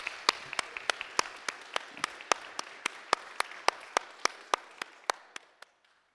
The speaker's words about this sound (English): I want to also congratulate all of you for the work you do in the background, praying for all these people who are doing the work and supporting in ways that we do not necessarily see. Let us clap for them too, also.